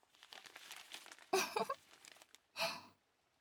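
Newspaper crinkles and rustles as it is wrapped around washed sweet potatoes for roasting, with soft handling noise building into two louder crumpling bursts, the second short and sharp.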